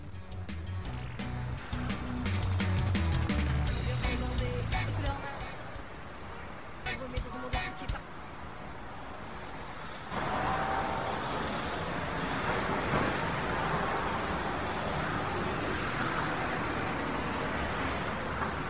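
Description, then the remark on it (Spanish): A busy city street hums with a steady wash of traffic noise, rumbling vehicles passing in the first half before the sound shifts to a brighter, hissing roar, with faint voices mixed in. “Y nos trasladamos a una calle en el centro de Madrid.”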